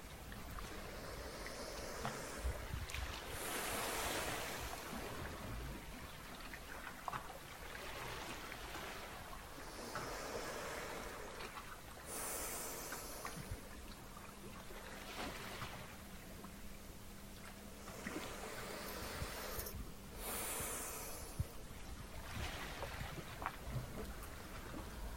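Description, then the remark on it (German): Continuous rushing sea waves washing onto the shore, repeated broad surges of hiss washing in and retreating at a steady, unhurried pace, even in loudness, with no voices. “Und entspanne dich mit dem Rauschen der Wellen immer mehr und mehr.”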